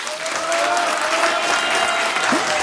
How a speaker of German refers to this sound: An dieser Stelle wünsche ich mir jetzt einen riesengroßen Applaus für alle Freiwilligen bei uns im Land.